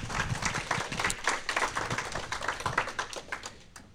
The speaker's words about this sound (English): Absolutely. Give me applause.